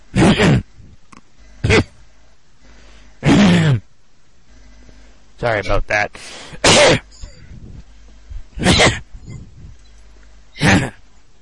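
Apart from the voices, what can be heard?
coughing and throat clearing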